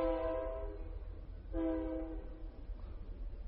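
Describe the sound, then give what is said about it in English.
A train horn sounds twice with strong, steady harmonic blasts over the low rumble of a passing train, loud, with no voices. “you can hear a train coming right into Calvis and Damien there for a second”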